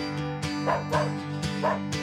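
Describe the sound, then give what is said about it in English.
A dog barks playfully in a quick, uneven series of short yaps and woofs over a steady low humming tone. “We love the sound of play. That's why when it fades due to joint discomfort, we feel our dog's pain.”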